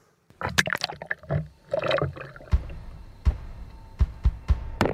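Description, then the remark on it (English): A paddle with a 4-pound brick taped to it splashes into water with a burst of churning and sloshing, followed by a series of sharp knocks and thuds as it settles, with no talking. “I've taped a 4-pound brick to the paddle, and we're going to see whether or not it sinks or if it floats.”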